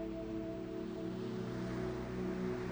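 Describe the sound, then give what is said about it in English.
A soft, continuous wash of ocean waves on the shore, steady rather than surging, with a low sustained humming drone beneath it and no voices. “The waves wash in, the waves wash out, and the waves begin to keep rhythm with your own breath.”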